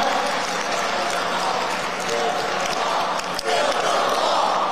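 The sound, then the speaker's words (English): A large crowd roars and applauds a speaker in a steady, dense wall of cheering and clapping that stays loud and unbroken for several seconds. “The crowd goes absolutely wild.”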